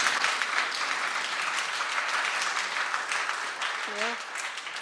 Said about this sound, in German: Einen Applaus für den Mann.